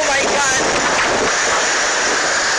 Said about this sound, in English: This is a look inside perhaps one of the strongest storms in recorded history.